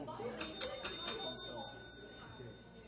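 A handheld session bell is struck several times in quick succession to call a city council session to order, its bright metallic ring hanging on and slowly fading, while a room full of people murmurs in the background.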